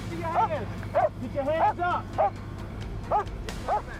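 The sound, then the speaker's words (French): A police dog barks repeatedly in short, sharp bursts, about seven barks spread unevenly over a few seconds, moderately loud above a steady low rumble, as it and its handler track a suspect. “Un maître chien et son animal réussirent à le traquer.”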